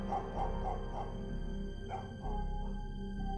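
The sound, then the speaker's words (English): A dog barks in a string of short, muffled yips that grow fainter and sound somewhat distant, set against a steady low hum, with a brief pause midway before the barking resumes. “could hear the barks growing fainter and fainter until they were nothing but a distant echo.”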